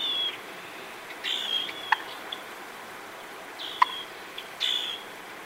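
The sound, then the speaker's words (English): A wild turkey's subdued alarm call: two short, soft pops spaced about two seconds apart, with faint high chirps scattered around them over a quiet outdoor background. “And here's an alarm call.”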